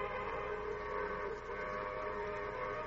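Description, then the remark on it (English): A train whistle blows in one long, steady, sustained tone lasting several seconds, somewhat muffled, with no voices over it, as the train signals that it will stop at a railroad station. “Hey, there's a whistle, Roy.”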